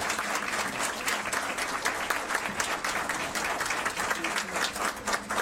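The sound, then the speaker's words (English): An audience applauds the evening's student artists from visual and performing arts programs, with dense overlapping claps forming a continuous, bright wash of sound that holds an even level throughout with no voices on top. “have one more round of applause for all of our wonderful artists this evening.”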